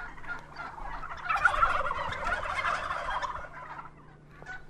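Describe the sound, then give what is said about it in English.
A flock of heritage turkeys on Frank Reese's small farm in Lindsberg, Kansas, on a warm fall day, gobbles together in a dense, rolling chorus of warbling calls, swelling in the middle and easing off toward the end, with faint outdoor hum beneath and no one speaking. “It's a warm fall day, and Frank Reese is showing me his heritage turkeys.”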